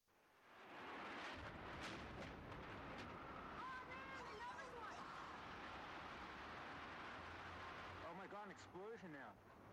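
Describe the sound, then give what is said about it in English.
A loud explosion erupts into a sustained, thundering roar that rumbles on without letup, while shouts and cries rise through the noise, especially toward the end. “Explosion now. Oh my God!”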